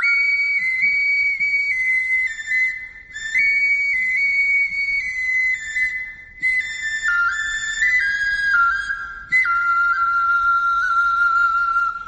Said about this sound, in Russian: Таш Сыбызги. Называется «Каменный свисток». Шуншушпык. Глиняный соловей норильский.